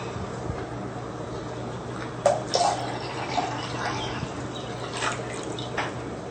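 Water pours steadily into a pot, a continuous splashing rush with a few brief clinks and drips, moderately loud, with no one speaking.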